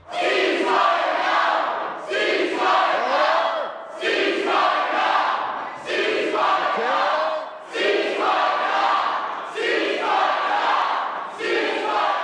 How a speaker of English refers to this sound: You can hear the speaker yelling order and eventually telling MLAs to leave the chamber now. And they did.